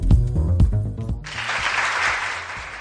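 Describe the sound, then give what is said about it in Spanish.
A short burst of music with strong beats gives way to a steady wash of clapping from a crowd, sustained and even for the remaining couple of seconds, marking the opening of the Medina del Campo Film Week (Semana del Cine). “Y este aplauso porque vamos a estrenar ya esa Semana del Cine de Medina del Campo.”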